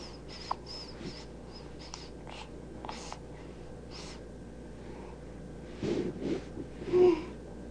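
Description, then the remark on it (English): Soft, breathy exhalations come and go, then a drawn-out yawn swells near the end with a brief voiced, whiny tail. It sounds fairly quiet, with no talking. “a yawn.”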